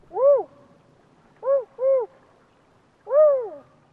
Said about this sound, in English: Definitely a female because of the pitch. It's a high pitch, and spotted owl females are higher pitched than the males. Sounds to me like an owl on a nest, communicating with their mate, maybe about the progress of their nestlings